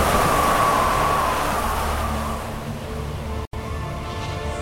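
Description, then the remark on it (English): A loud, steady roar of strong hurricane wind rushes continuously, with a thin whistling tone early on that fades, then a brief sudden cutout before the roaring resumes. “Or is that wind? It's a hurricane!”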